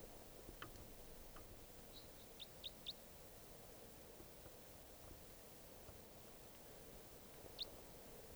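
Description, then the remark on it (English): Short, sharp call notes of a wild type 4 crossbill, a quick cluster of three or four chips followed by a single call near the end, cutting through a steady background hiss. No one speaks. “crossbill here, a wild type 4.”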